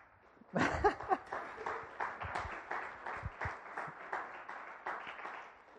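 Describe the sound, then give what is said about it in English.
An audience bursts into applause, starting with a loud swell of clapping that settles into steady, moderately loud clapping lasting several seconds, with no one talking over it. “I greatly appreciate the applause.”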